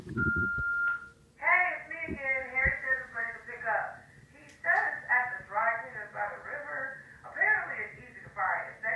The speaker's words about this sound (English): The phone is ringing. I knew this would happen. It's ringing again. But it's outside of my cell and I can't... Oh, that's annoying.